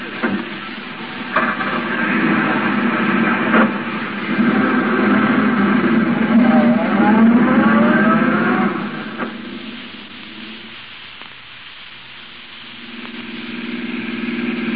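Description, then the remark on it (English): A taxi cab drives through traffic following a gray sedan, its engine rumbling steadily with a rising, revving whine in the middle before easing off and then building again. No one speaks. “Hey, taxi. Cab, sir? Yeah, that gray sedan of the chauffeur. Follow it.”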